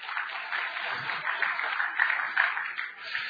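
Steady applause from an audience, many hands clapping in a dense, continuous wash that holds at an even level for several seconds with no voices over it.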